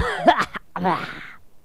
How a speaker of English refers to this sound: I'm going to Dixie Nutrition. Be back in about an hour without this cough.